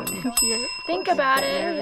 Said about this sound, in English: It's funny to hear so many bells ringing, but everyone does this. On average, people in Wegner's original study ended up ringing the bell about once per minute.